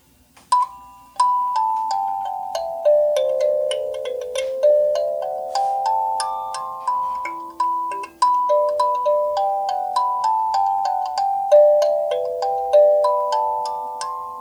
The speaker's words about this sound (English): And then the kalimba also sounds great on slow speed, as well as the 7 1/2.